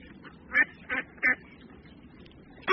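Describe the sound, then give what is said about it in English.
Ducks on the water quack in short, harsh bursts: three close together, then a pause before a fourth, over a steady low outdoor background with no talking. “Look at those ducks in the water.”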